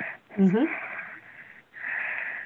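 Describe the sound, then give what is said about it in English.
Heavy, raspy mouth breathing from a caller, picked up over a thin telephone line: two long airy breaths, with a brief murmured vocal sound near the start. “We can hear you breathing through your mouth.”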